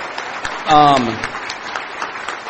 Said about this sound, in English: Anybody that's involved with the committee here, please raise your hand because I want to give another round of applause.